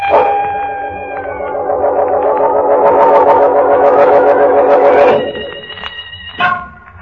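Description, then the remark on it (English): A police siren wails loudly, its harmonic tone gliding steadily upward for several seconds before cutting to a flatter, steady tone and a brief final burst. No one speaks. “I hear sirens. It's the police.”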